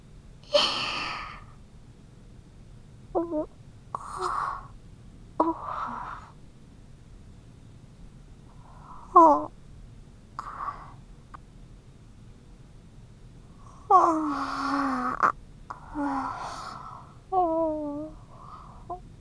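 human body sound, yawn

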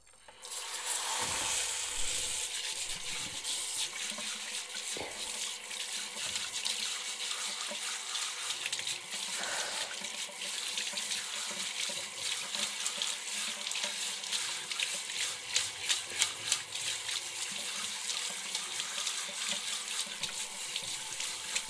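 household object, shower water running

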